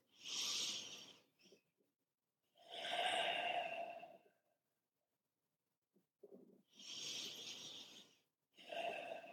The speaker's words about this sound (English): Just two breaths like that will slow you down.